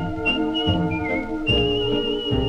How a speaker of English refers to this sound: He's always happy and gay. He whistles his worries away.